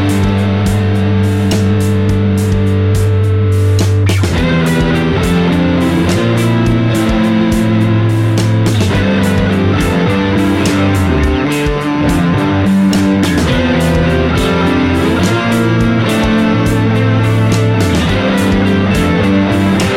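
An electric guitar played through a KMA Worm 2, the only effects pedal in the chain, into a Neural DSP Corey Wong clean amp preset in a DAW, with no post EQ, reverb or delay; thick and heavily processed, sustained chords and riffs ringing out loud and steady, with no talking.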